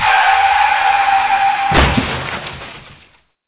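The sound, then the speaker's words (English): A car's tires screech in a long sustained squeal as a tornado slings the car, then a heavy crash hits with shattering glass and clattering debris that tumbles and fades out. No voices. “The tornado slinging that car in here.”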